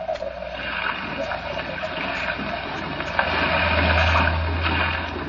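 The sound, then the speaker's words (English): A small fishing boat's engine drones low and steady beneath a constant rush of churning water and spray as it approaches an island, with the wind blowing hard and the sea racing, the motor swelling louder toward the end. “It was only as we approached the island in a small fishing boat”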